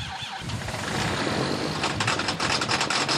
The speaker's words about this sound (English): It takes a few tries before Dennis Jones's tractor starts up. It doesn't like the cold.